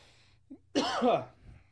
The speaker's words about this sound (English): Sorry, I had to cough right when you...